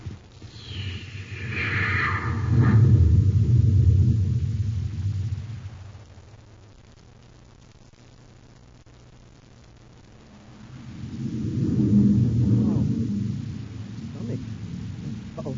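A deep, heavy roaring rumble swells loudly for several seconds, fades to a low steady drone, then surges up again as a rocket ship's engines thunder after launch.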